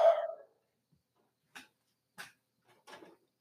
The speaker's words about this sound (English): I also, sorry, that's my dogs barking in the back.